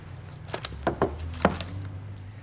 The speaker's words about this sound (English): Louise is in her office as Jonathan knocks on the open door.